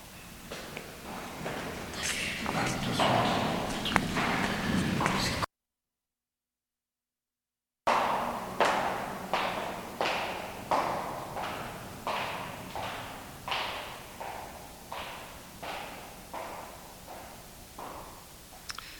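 Steady footsteps thud along at an even walking pace, each step distinct and fairly close, gradually growing a little quieter; a brief silence interrupts, with busier, denser noise before it.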